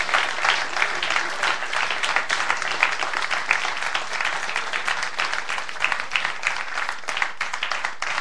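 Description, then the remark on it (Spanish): A crowd applauds Christ at night for about eight seconds, a dense, even wash of many hands clapping at once with no voices standing out. “Si usted entiende que la Biblia tiene la respuesta, en esta noche dale un aplauso a Cristo, porque esa Biblia está en sus manos.”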